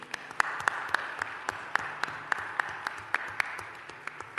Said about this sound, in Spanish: Y sí le quiero pedir vamos a aplaudirle primero a ellos, que le daremos el escudo de oro.